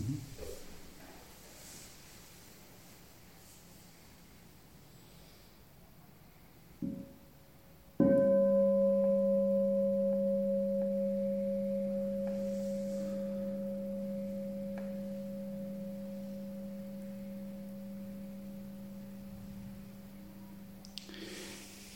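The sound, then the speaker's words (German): A single bell is struck once after a faint tap, then rings on with a steady, pure tone that slowly fades over about fourteen seconds, alone without talk. “Ja, vielleicht hören wir jetzt mal eine Glocke.”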